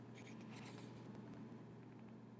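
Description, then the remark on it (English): Shoes rub and scuff against a floor in a few quiet, gritty strokes, over a steady low hum, with no one speaking. “Rub your shoes on the floor. You can make quiet sounds.”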